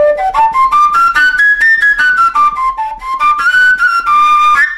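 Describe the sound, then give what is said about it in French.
A breathy recorder-type pipe whistle, played only by breath pressure, sounds steady, its pitch stepping up through a series of notes as its end is covered, dipping back down, then climbing again, with no voices. “Et en bouchant l'extrémité, je vais pouvoir changer des notes.”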